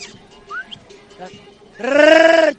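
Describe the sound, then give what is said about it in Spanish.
A loud, drawn-out bleat from a sheep or goat rises near the end, from a flock of about 800 sheep and 200 goats being driven along Calle Alcalá through the streets of Madrid, with the flock's faint noise, a brief whistle and crowd murmur beneath. “Ahora exactamente estamos por la calle Alcalá, subida a Cibeles, y vamos, ya te digo, con 800 ovejas detrás y unas 200 cabras.”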